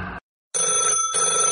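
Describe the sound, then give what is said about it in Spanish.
A loud old-fashioned landline telephone bell rings in metallic bursts: a clipped ring cuts off, a short silence follows, then a longer, steady jangling ring fills the rest with no voices. “Al viejo teléfono de línea, ya no lo atiende nadie.”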